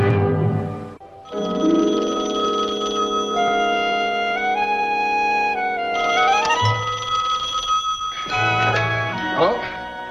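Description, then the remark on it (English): A telephone rings with a sustained, bright bell-like tone that carries on for several seconds, loud, with some voices mixed in. “Who's on the phone?”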